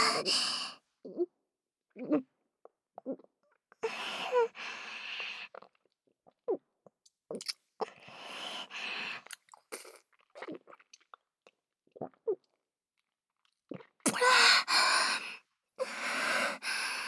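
Wet swallowing and gulping sounds of a throat while drinking come in short bursts, mixed with soft mouth noises and heavy breaths and sighs, with brief pauses between them.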